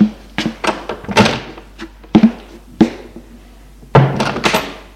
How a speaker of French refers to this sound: L'homme frappe à une porte. Entrez!